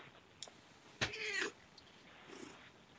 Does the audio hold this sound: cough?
no